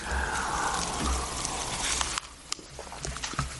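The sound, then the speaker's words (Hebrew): Liquid pours steadily into a cup for about two seconds with a soft, rushing gurgle, then stops abruptly, leaving a few faint drips and light clicks. “זה למשל אפשר לתקן במים או בסודה או במיץ, אבל זה כבר פגום כי שתיתי ממנו, אז לתקן במים האלה אי אפשר, זה לקחת מים מהברז.”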